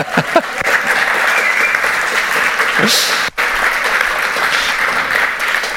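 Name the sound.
audience applause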